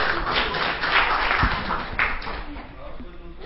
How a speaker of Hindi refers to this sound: ओम शांति, तालियां।